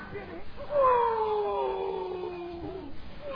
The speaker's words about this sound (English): In the night, she hears the howl of the jackal.